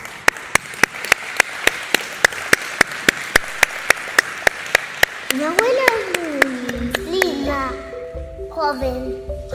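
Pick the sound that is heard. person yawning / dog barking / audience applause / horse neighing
audience applause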